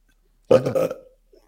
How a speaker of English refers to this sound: You want to hear? Sure. Why give us a belch?